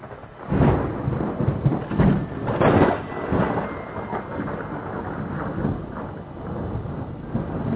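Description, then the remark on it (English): A roaring storm at sea around a ship, with gusting wind and deep rumbles of thunder, loud and sustained, with surging bursts of noise in the first few seconds before settling into a steady howl. “The storm started where it had left off, and the ship continued onward.”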